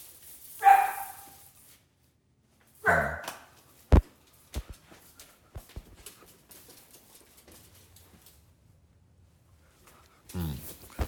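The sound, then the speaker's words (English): A dog named Trotsky barks loudly near the door, three sharp barks spread several seconds apart, with scattered clicks and light taps filling the gaps between them. “But somebody was at the door because Trotsky was barking closely to the door.”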